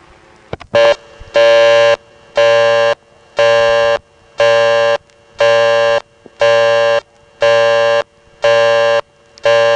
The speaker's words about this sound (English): The busy signal, too, is kind of distinctive because it has a little buzz, very subtle, at the beginning and end of each tone.